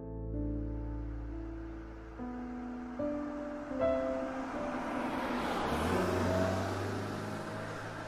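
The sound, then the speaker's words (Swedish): A car engine drones steadily as the vehicle drives, its low hum stepping up and down in pitch with gear changes and a rising rush of road noise, continuous with no talking. “Jag satt i bilen på väg till min gamla släkting Harrys herrgård, Hermannagården.”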